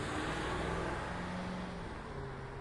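Steady, droning engine rumble from inside a moving car, with a low hum whose pitch shifts slightly, filling the whole clip at an even, moderate level with no voices.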